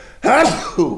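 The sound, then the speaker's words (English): A single sneeze, a sharp voiced burst with a breathy rush, trailing off into a brief second gasp-like sound. “Bless you.”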